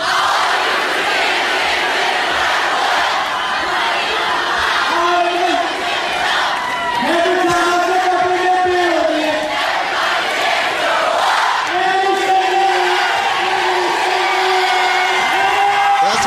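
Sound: crowd singing and cheering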